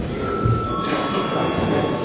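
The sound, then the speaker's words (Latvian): The Saeima chamber bell rings continuously for about two seconds, a steady, harsh metallic buzz with a bright high ring running through it, moderately loud and with no voices over it. “Lūdzu zvanu.”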